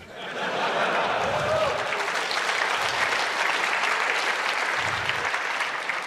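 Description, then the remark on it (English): An audience at an on-stage presentation claps loudly and steadily for several seconds, a dense, even wash of many hands with a brief murmur of voices mixed into the applause. “You clap, I'm fucked.”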